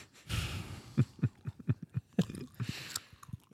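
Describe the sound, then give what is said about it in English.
Wet, rhythmic gum chewing right up against the microphone, a steady run of soft smacking clicks with a couple of breathy nasal exhales mixed in, and no talking. “Quit chewing gum”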